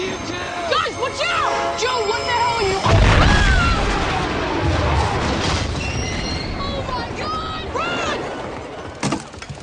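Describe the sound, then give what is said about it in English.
A train explodes in a science fiction film scene with a sudden, heavy boom a few seconds in, followed by a long low rumble, while high whining, whistling tones sweep and chirp throughout the mix. “Well, that's the sounds of the train exploding.”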